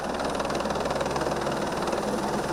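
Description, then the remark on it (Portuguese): Engines of a Federal Police convoy of five boats and a jet ski, heading to Eldorado do Sul, Brazil, drone steadily and loudly throughout, a continuous low rumble with a dense, vibrating hum and no voices on top. “O comboio policial tem 5 embarcações e uma moto aquática.”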